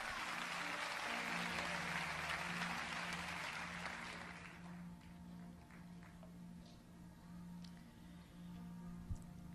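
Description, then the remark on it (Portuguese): An audience at an evening church service claps together for Jesus in a dense, steady burst of applause that fades out after about four seconds, leaving a low hum and a few faint scattered taps. “Você consegue aplaudir a Jesus pela sua palavra esta noite?”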